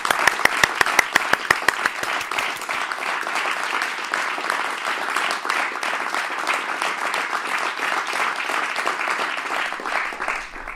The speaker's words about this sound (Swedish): Ni får en applåd här.